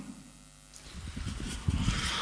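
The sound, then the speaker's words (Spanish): After a brief quiet moment, a few rough, breathy bursts of coughing and throat clearing come, irregular and growing slightly louder toward the end. “Sí, mejor empezar diciendo buenas tardes que no tosiendo directamente sobre”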